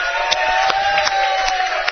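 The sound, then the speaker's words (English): A crowd at a Northwest Missouri State University Bearcat show cheers and applauds for Bearcat pride in a steady, dense roar of voices, with scattered sharp claps popping through at an even loudness throughout. “Let's hear it for some Bearcat pride here tonight.”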